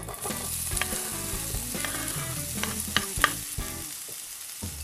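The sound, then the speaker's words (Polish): Vegetables, including chopped salted onion, frying in olive oil in a heated pan, a steady hiss of sizzling broken by crisp pops and a few sharper clacks of stirring, with no one talking. “Czekamy, aż patelnia się nagrzeje i wtedy wrzucamy wszystkie nasze warzywa.”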